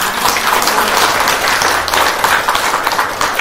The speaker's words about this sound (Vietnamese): Xin cho một tràng pháo tay ạ.